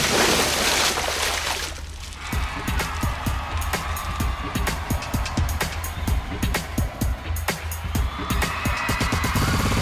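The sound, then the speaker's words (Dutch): Water splashes and sloshes steadily from an artwork resembling a faucet, a broad rushing wash broken by many quick irregular spatters and droplet impacts, with no voices. “Maar door die plons... Ook dat is weer een kunstwerk dat het geluid de aandacht trekt.”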